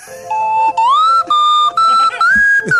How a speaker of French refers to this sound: Ah, c'est bon, c'est les reprises à la flûte à coulisses.